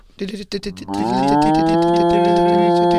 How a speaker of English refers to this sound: Breaking news. I don't know if the breaking news cow is actually appropriate for this because it's kind of serious.